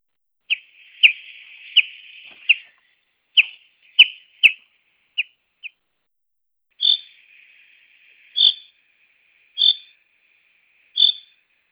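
A bird gives sharp, high call notes one after another, first in a quick run over a buzzy trill, then as evenly spaced loud cries about a second apart, with no talking.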